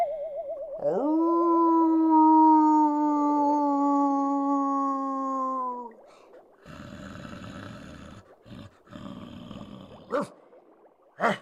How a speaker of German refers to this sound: Hand zur Kralle, Haar zu Fell, menschenlaut wird Wolfsgebell.